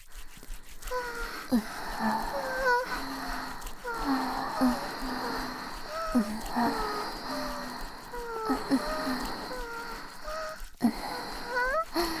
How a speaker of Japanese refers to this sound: 運動してるからさ、息が上がってきちゃったな。あー、そうだ、左右の耳にも吐息を流し込んであげる。